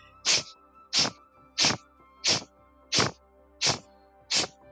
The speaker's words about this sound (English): And it's a strong sniff. Really strong. Sharp. Through the nostrils.